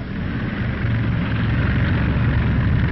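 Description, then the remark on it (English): The racing speedboat Miss America IX, its 12 exhaust pipes belching flame and Gar Wood at the wheel on a world record attempt, roars loud and steady, a deep, rough rumble with a harsh noisy edge that holds without a break. No voices are heard. “Her 12 exhaust pipes belching flame, the Miss America Ninth is raring to go.”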